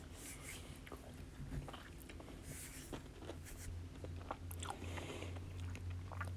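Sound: sipping water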